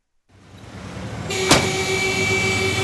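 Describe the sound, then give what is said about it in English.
City street traffic in Caracas, Venezuela, in mid-afternoon just before rush hour, with a taxi stuck in it, fades in as a steady engine rumble and hiss; about midway a sharp knock sounds and a sustained horn-like tone holds over the idling noise. No one speaks. “taxi is stuck in traffic again”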